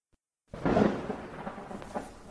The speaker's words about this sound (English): Oh, it's raining now.